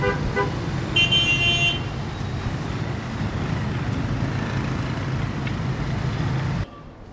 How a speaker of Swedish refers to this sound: Ja, det ni hörde här, det var alltså trafiken i Ho Chi Minh stad. Det vill säga det som förut hette Saigon.